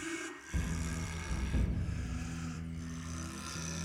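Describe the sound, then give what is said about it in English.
Heavy, steady breathing with a deep, rasping low rumble, continuous, swelling slightly in even cycles with no talking. “While he had several loud compatriots in his cell, their breaths had never been this heavy or even.”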